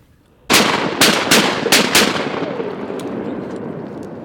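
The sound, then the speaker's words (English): Five sharp, loud gunshots from a duck hunter fire at flying ducks in quick, slightly uneven succession, each a hard crack, followed by a lingering rumble that slowly fades. A duck is shot, and a British Labrador named Skeeter goes to retrieve it. No one speaks. “shoots a duck, and her British Labrador Skeeter is off to retrieve it.”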